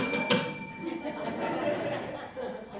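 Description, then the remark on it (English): A bell is struck once near the start, its bright metallic ring lingering and slowly fading, while a low murmur of voices and light chuckling carries on underneath. “So let's get out the bell.”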